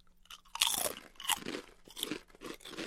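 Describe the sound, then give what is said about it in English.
Crisp, crackly crunching of expired olive oil flavored potato chips being chewed, several bright bursts in quick succession over about three seconds with no talking. “Let's try olive oil first because it's the most expired. Cheers. Chip cheers.”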